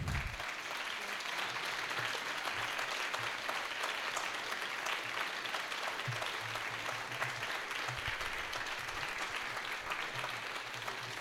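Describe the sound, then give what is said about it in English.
Sustained applause from a large audience at a storytelling event, applauding the storytellers; a dense, steady wash of clapping that stays loud and even for the full stretch, with no voices standing out above it. “Yes, keep the applause coming.”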